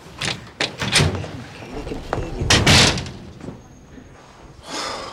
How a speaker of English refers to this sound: Chandler opens the door for him.